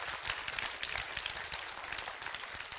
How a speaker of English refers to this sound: Can you give the Lord a great hand clap of praise today?